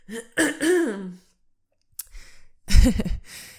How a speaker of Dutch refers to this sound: Maar ik heb een kikker in mijn keel. Niet normaal. Sorry voor al het hoesten.